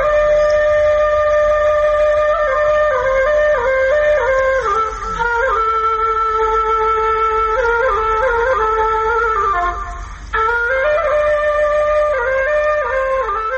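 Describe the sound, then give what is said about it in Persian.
A tula, the Afghan traditional flute, plays a loud sustained melody of held notes that step up and down in pitch, with one brief breath-like pause near the end and no voices. “شنیدن ساز توله بر شما تأثیر می گذارد؟”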